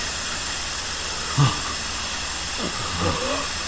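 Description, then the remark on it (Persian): A steady, continuous aerosol spray hiss runs through the whole clip at an even level, with a few brief, faint vocal sounds murmuring beneath it. “ماسکشو زد به صورتش. تو کی هستی؟ اسپری زده شد.”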